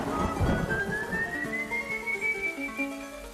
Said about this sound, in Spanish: Durante el trayecto, el silbido característico del espectro acompañó sus pasos.